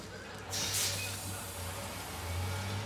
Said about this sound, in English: As Slim and Woody watch the bus pull away,